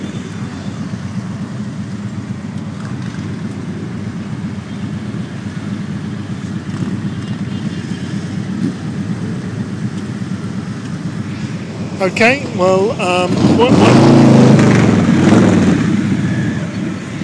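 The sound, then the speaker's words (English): A steady, dense rumble of thousands of motorcycle engines idling and rolling in at the Ace Cafe during a rally against a bike parking tax, then one bike revs loudly for a few seconds with rising, falling pitch; a voice speaks briefly. “I'm on another No to the Bike Parking Tax rally, and this is just the sound of thousands of motorcycles turning up at the Ace Cafe on Sunday the 27th.”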